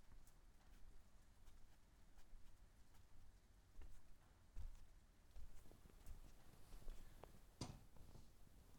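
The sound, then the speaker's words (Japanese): Steady rain falls outside, a soft continuous hiss broken by irregular, sharp drips and taps, with no voices present. “雨は上がりませんでしたね。”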